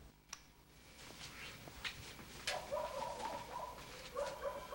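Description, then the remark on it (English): Dogs bark, a faint, muffled run of yelps and barks that picks up halfway through over a quiet, hissy background. “She stops, alerted by the noise of the dogs barking.”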